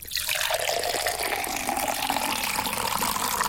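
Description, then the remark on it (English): Water pours steadily into a glass in a game where a player must shout stop before it overflows, a continuous splashing stream whose pitch slowly rises as the vessel fills, with no talking. “just shout stop before the water falls out of the glass.”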